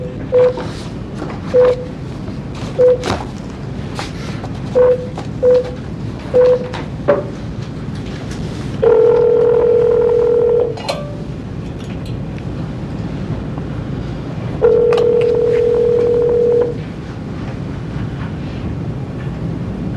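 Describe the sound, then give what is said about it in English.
A telephone call is placed during an Arizona Board of Executive Clemency hearing: a quick series of short electronic dialing beeps, then two long, steady ringing tones spaced a few seconds apart, all over a faint background hiss and no talking. “I'm going to ask everybody just to hold on. I'm to make a phone call.”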